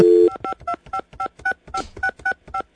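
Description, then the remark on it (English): A steady dial tone cuts off, then a quick run of about ten touch-tone beeps sounds as a phone number is punched in to call Bill Belichick, each a short paired-pitch tone in an even rhythm. “Let's call him up. Let's call up Belichick.”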